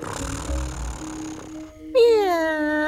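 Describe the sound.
A person's voice imitates a cat's meow for a cat character from the Midnight Forest: one drawn-out, loud meow with a falling pitch. It follows a quieter stretch of soft background sound and a brief pause.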